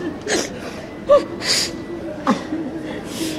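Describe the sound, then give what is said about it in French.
Breathy sobbing of a woman overcome with emotion while reuniting with an arriving Iran Air passenger: a few sharp gasping inhales and shaky, whimpering breaths in uneven bursts, with muffled voices in the background. “Ne pleure pas, maintenant on est ensemble.”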